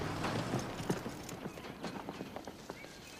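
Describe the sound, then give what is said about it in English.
A ridden horse trots, its hooves clip-clopping in a steady rhythm, the sharp knocks clear over a soft outdoor background, with no talking. “Later, Twister trots his horse over to Michael, who's asleep on the hood of the truck next to another broken section of the fence.”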